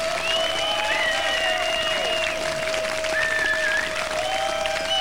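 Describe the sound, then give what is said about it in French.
An audience at a 105 Black Session applauds a band from Liverpool steadily and loudly for several seconds, a dense wash of clapping from many hands, with faint sustained whistle-like tones running through it. “Vous pouvez les applaudir encore un peu quand même, ils le méritent.”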